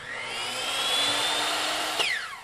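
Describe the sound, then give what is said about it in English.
A power tool whines steadily at high pitch, loud, then its tone suddenly drops as the motor slows near the end, at the Vintage Camper Restoration Company in Placer County, where parts for vintage camper trailers are sanded, cut and refurbished. No voices are heard. “He spends his days sanding, cutting, and refurbishing parts for inside these fixer-uppers.”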